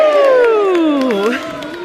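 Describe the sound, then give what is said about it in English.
A group of voices lets out one loud, drawn-out cheer that slides steadily downward in pitch over about two seconds, then eases off at the end. “And all of you too, maybe you can cheer us out.”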